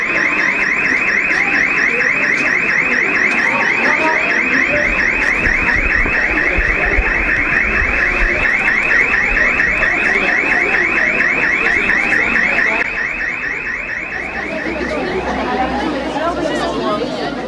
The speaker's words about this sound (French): Qu'est-ce qui s'est passé exactement? Il y a une alarme? Ouais.